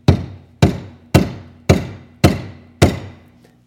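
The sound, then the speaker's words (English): A hammer pounds a nail with six sharp, evenly spaced blows, each a loud ringing strike that fades quickly before the next. No voices are heard. “Hammers work great on nails, okay? That's what a hammer is created to do, is pound things, okay?”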